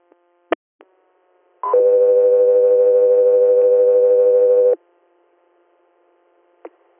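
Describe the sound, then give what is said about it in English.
Radio dispatch alert tones for the unit South Three Air: a brief higher tone slides into one long, loud, steady lower tone held about three seconds, framed by sharp radio clicks before and after. No one speaks. “South Three Air, stand by for tones.”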